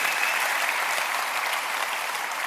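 Steady audience applause, a dense wash of many hands clapping at an even level for a couple of seconds with no voices standing out.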